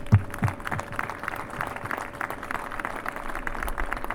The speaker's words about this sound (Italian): Quindi io credo che il primo applauso e il primo grazie vada davvero a voi. Grazie.